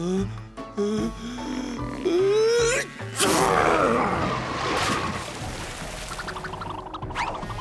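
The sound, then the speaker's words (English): Rising, wavering 'ah... ah...' intakes play over music, then Clifford, a giant cartoon dog on board a boat, lets out a huge, explosive sneeze, loud and broad, trailing into several seconds of rushing, rumbling noise. “I'm sure that was his last sneeze, wasn't it, Clifford?”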